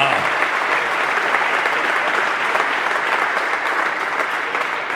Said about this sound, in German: Erstmal, das ist ein Applaus wert. 500 Kilometer für den heutigen Abend.